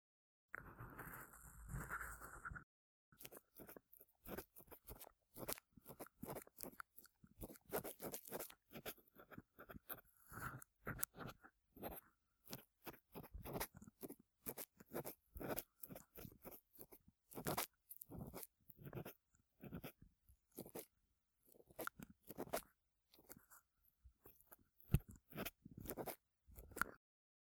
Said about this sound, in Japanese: 耳の中の壁にサジの先があえて触れる。瞬間、プルッと体が震える。癒しが耳から駆け巡る。耳の奥に張り付いた耳垢を剥がしていく。